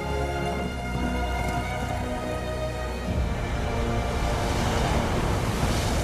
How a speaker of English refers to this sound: they ride fast along a beach with white waves rolling into shore.